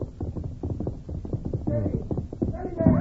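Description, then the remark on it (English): Rapid, rhythmic hoofbeats of a horse ridden hard at a gallop over rough ground at night draw closer and grow slightly louder over three seconds, with brief higher-pitched tonal sounds rising above the pounding near the end. “They became alert at the sound of approaching hoofbeats.”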